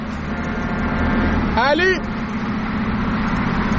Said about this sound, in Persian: بذار شل کنم یه بوق واسش بزنم ببینم کمک میخواد یا نه.